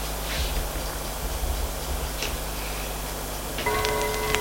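A clock ticks faintly in an apartment over a steady low hum and hiss, then bright, sustained chime-like tones ring out near the end.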